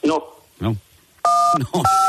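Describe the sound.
A steady electronic telephone-line beep sounds twice in the background, a sustained dual tone broken by a short gap, while a person talks over it.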